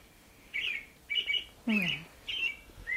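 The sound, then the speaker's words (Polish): A bird clock in a studio chimes its recorded birdsong: five short, bright chirping calls in steady succession, fairly quiet, with a brief murmur of a voice around the middle. “O, to taki zegar ulubiony z ptaszkami.”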